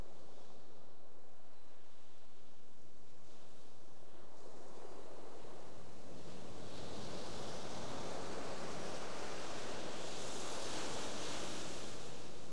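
ocean waves breaking

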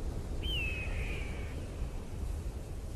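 eagle call

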